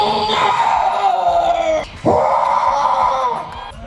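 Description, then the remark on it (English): A contestant on stage at a Sasquatch calling contest screams into a microphone, letting out two long, loud bellowing screams imitating a Sasquatch call, the first sustained and wavering, then a brief breath before a second drawn-out howl that trails off. “And they just kind of belt out a different kind of scream, as it were, which I like.”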